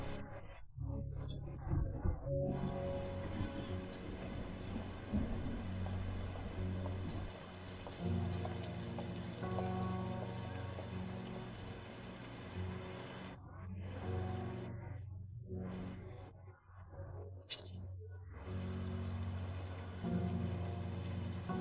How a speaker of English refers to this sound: And it begins to rain heavily. So you try to walk faster and faster to find a place to take shelter from the rain.